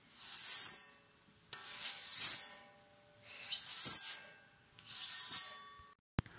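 Four slow, even rubbing strokes with a bright, hissing texture, each swelling and fading with short pauses between, as a wooden railing is rubbed and polished with a cloth; a small click at the end.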